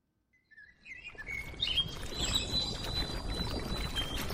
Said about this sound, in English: It is evening in Yaoundé and birds sing at a makeshift park near the Amadou Ahidjo Stadium, one of the sites of the 2016 Women's Football Africa Cup of Nations.